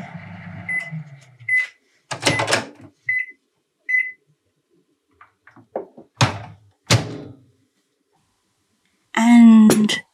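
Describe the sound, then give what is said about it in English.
Short electronic beeps and a few door clunks and thuds, then a loud, steady humming drone of a microwave oven in a kitchen starting to run near the end, heating a chocolate mug pudding for one and a half minutes. “We are not going to listen to the microwave for 1.5 minutes.”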